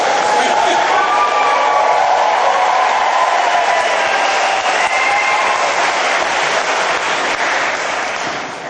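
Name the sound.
crowd cheering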